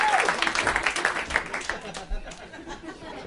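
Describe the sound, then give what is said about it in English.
A crowd cheers and yells over scattered clapping as Paul F. Tompkins, John Hamm and Tom Sharpling come out, many yelling for John Hamm; a dense, lively roar of many voices that stays fairly loud and steady for the whole few seconds. “A lot of John Hamm, a lot of people yelling, yeah, John Hamm.”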